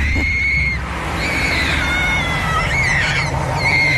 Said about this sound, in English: this child was on a scooter screaming as a magpie swept on him, and I'm clowning his dad who took the video of it and didn't help his son.